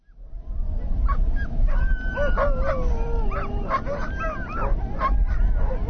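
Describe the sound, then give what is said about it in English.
A pack of sled dogs at a sled dog race, with 14 teams out in the bitter cold, barks, yips and howls excitedly all at once. A dense overlapping chorus of wavering howls and sharp barks plays over a low rumbling background, loud throughout. “14 teams came out into the bitter cold to compete for the Holiday Classic title.”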